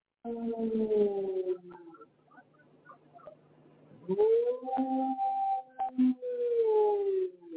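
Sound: dog howling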